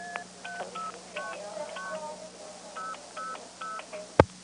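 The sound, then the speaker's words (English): A quick sequence of paired-tone multifrequency beeps as a telephone operator restarts keying a phone number, including the code 11 (ST3P) tone, each short and evenly spaced, over a steady low hum, ending with a sharp click near the end. “That apparently is the tone that's being used when she restarts keying the phone number.”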